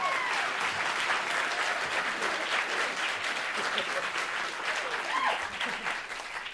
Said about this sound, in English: When they joined us in the green space a week after the show officially opened, they got quite a cheer.